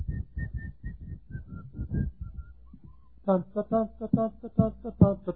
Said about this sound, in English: And I've been whistling it and humming it.